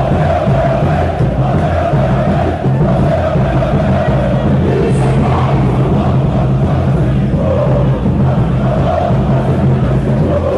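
A large crowd of football club supporters chants loudly and continuously in celebration of the Deliberative Council's decision, announced around 10:30 on a Friday night, removing club president Júlio Casares. A dense roar of many voices with rhythmic sung phrases rises above it, steady throughout.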